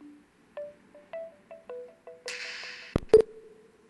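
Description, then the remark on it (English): A phone's electronic ringtone plays for an incoming call as a quick series of short, bright beeping tones, followed by a brief burst of hiss and a couple of sharp clicks. No one speaks. “Okay, so now I've hooked this up to make a phone call. Hopefully I should get that. Yep, there it is.”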